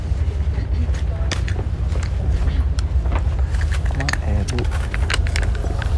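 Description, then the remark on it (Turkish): Steady, heavy engine rumble fills the interior of an old ferry boarded by stairs as it docks, with scattered clanks, shuffling footsteps as people get up, and voices talking over the drone. “bu yeni vapur değil, eski vapur. Merdivenlerle çıkılan vapurdu arkadaşlar.”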